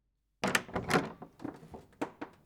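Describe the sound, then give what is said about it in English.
A door is opened to let the building manager in, with a quick series of knocks, rattles and thumps from the latch and frame, moderately loud, ending in a couple of lighter clicks. “Hello, guess who's at the door? Won't you be a dear and let me in?”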